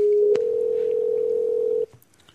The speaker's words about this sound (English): So let's give this phone a call, and we'll get Jack here.